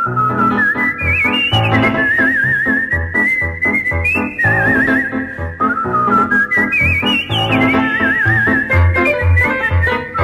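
A bright whistled melody with a slight wavering vibrato runs throughout, carried loud and clear over a steady instrumental backing with bass and rhythmic chords; no one speaks.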